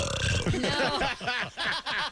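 A long, loud, drawn-out burp rumbles, croaking through several guttural pulses before trailing off, with no talking over it.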